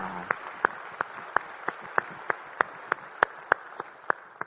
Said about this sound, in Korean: 우리 주님께 영광의 박수 올리겠습니다. 할렐루야.